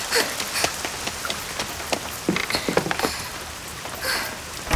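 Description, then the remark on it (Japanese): A sudden heavy downpour: rain pours down steadily, a dense hiss with scattered louder splashes and drops hitting a surface. No voices, just the continuous downpour. “今日は晴天だって聞いてたのに、こんなゲリラ豪雨に遭うなんてついてないったらありゃしないわ。”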